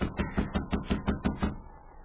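A rapid, steady series of about eight firm knocks on a cabin door, evenly spaced, then a short fading ring of resonance. No voices.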